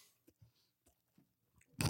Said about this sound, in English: As he chews into the microphone.